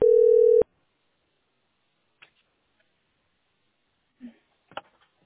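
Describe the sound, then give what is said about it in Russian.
A single loud, steady telephone line tone beeps for about half a second as a call to a heating utility's customer line in St Petersburg drops, followed by near silence with a few faint clicks and small handling noises. “Да, сбросился звоночек почему-то. Да, что-то прервалось.”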